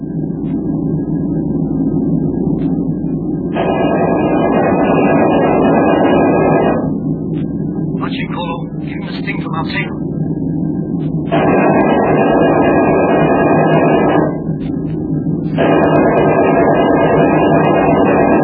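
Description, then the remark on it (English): A loud, steady aircraft engine roar with a droning whine that comes and goes in long stretches, broken midway by a few wavering swoops in pitch as the plane, pouring black smoke, goes into a nosedive. “Oh, there's the plane, Jim.”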